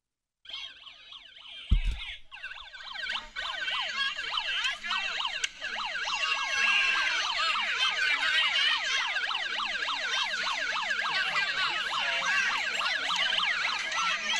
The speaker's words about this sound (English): Okay, that sound you hear, that's not a police siren. That's a megaphone from some idiotic protester.